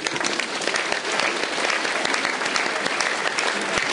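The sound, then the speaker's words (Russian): A group claps hands in dense, overlapping patter, imitating intensifying rain in a game called 'Rain', building a steady rain-like roar of many rapid claps, fairly loud throughout, with no speech. “Дождик усиливается.”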